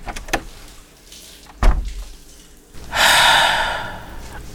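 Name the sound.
door being closed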